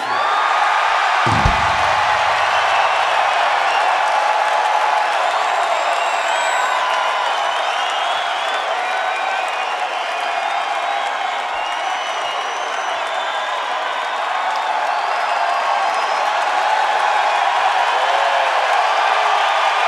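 A large live audience cheers and applauds continuously, a dense wash of clapping with scattered whoops and whistles, loud and sustained throughout, with a single low thump near the start.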